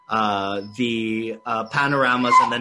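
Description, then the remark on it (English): A small puppy whines in three drawn-out, high, tonal cries separated by short pauses, the last one longer and more strained. “And sorry, I've got a little puppy here.”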